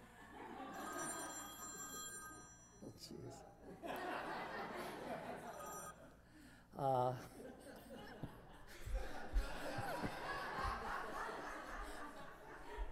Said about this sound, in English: Somebody's phone is ringing.